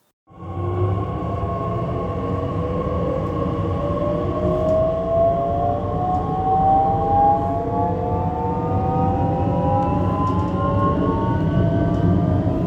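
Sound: train pulling into station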